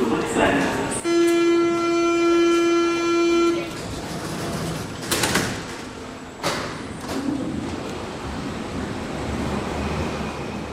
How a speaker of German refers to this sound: Unterwegs in Berlin, der Pionierstadt in Sachen Elektromobilität. Unterwegs mit der U-Bahn, mit der S-Bahn, wie die meisten hier.